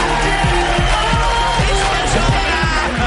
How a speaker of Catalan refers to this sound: Esteu aplaudint!